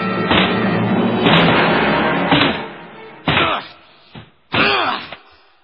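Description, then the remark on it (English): A door is battered with a series of heavy, booming thuds and bangs, about six blows at irregular intervals, some with a rattling crunch, and no voices. “Will you open that door or do I have to break it down?”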